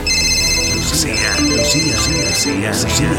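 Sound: mobile phone ringtone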